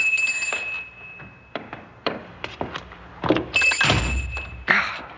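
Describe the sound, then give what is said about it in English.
An old wooden door is shut and latched so that it locks: a series of dull thunks and small metallic clicks, then a heavier thud and a final rattling click as the latch catches. “This old door. It's on a latch, but I have to be sure it locks.”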